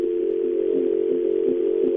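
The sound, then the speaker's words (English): A steady, loud telephone dial tone hums continuously, layered into a thick droning chord with faint pulsing swells from feedback, with no voices over it. “You ever hear a dial tone feedback on itself? It's actually very pretty.”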